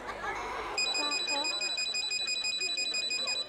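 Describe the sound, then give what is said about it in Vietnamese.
A phone that is in use on a call rings by itself with a repeating electronic trill that starts about a second in and keeps pulsing steadily and fairly loud, while people keep talking underneath it. “Ôi chú ơi, sao điện thoại của chú đang nghe tự nó lại đổ chuông?”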